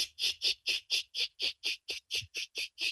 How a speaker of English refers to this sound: Third species, Magicicada septendecula, and they have like a regular, you know, shaker type rhythm.